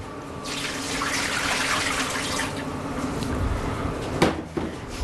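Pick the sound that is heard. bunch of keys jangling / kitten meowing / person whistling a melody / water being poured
water being poured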